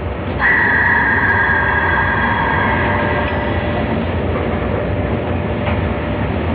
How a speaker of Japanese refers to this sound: こちらは昭和63年に収録した北斗星の運転席の様子です。